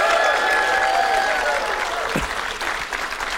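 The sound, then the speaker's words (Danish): An audience of about 1,800 people claps steadily, a dense, continuous wash of applause that stays loud throughout, with a few faint whistles or cheers riding on top; four people did not clap. “Så der var faktisk 4, der ikke klappede.”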